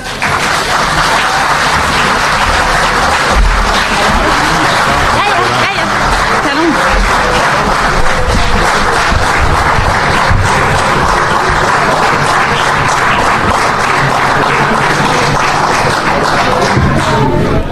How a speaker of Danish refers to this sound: Du er dagens længste bifald.